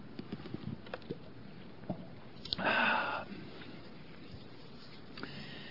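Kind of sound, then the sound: food or drink, sip of water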